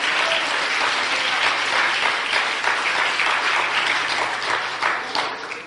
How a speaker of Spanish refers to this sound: démele un aplauso. Aleluya.